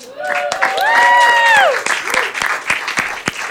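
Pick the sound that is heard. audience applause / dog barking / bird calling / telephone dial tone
audience applause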